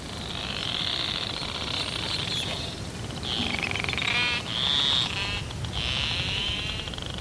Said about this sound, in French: On écoute le narval Fram 2